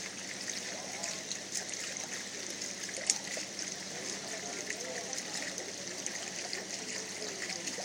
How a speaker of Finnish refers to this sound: Tässä vielä kivasti suihkukaivo lirisee meille, eikun solisee.